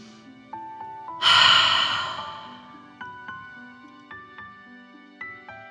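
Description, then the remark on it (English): One loud, forceful breath, taken in through the nose and pushed out through the mouth during a guided deep-breathing exercise, a rushing whoosh that fades over about a second, set against soft, steady musical notes playing throughout. “Breathing in through your nose and breathing fire out of your mouth. Again, deep breath in and out.”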